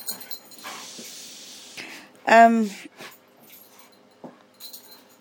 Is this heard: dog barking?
yes